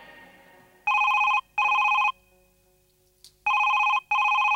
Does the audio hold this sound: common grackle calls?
no